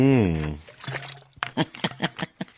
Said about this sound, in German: Ich trinke noch einen Schluck.